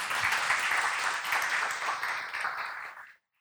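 A church audience applauding to thank a woman who helped prepare the sermon: a dense, steady patter of many hands clapping at a fairly loud level for about three seconds, then cutting off abruptly into silence.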